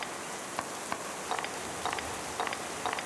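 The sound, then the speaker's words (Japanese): Steady, soft hiss of rain falling, brought down by Weather Report, with a scattering of light drip-like taps recurring every half second or so over the quiet, even wash. No voices. “この雨は！ディスクが！こいつ！ウェザーリポートに雨を降らさせやがった！”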